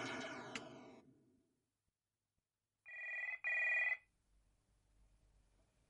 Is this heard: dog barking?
no